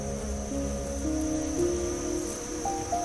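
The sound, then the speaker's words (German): A bee's steady, droning buzz hums continuously, its pitch wavering slightly as it goes on, with a faint high whine layered above and no voices. “Die Biene summt auf und erklärt dir hastig, dass ihre Königin sich nun ausruhen muss, um all ihre Kräfte für den nächsten Frühling zu sammeln.”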